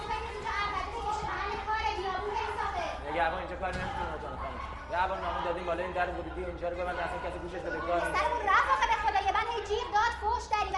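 A crowd of overlapping voices shouting and chattering at once, a dense, continuous clamor of many people, some sounding young, filling the space without a break.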